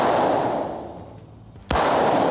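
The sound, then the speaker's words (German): A single sharp blank-pistol shot, fired at the ground, cracks out near the end over a steady, hollow background rumble. Its loud report lingers as a reverberant echo through a riding hall where police horses are being trained. “Natürlich nicht mit einer echten, sondern mit einer Schreckschusspistole.”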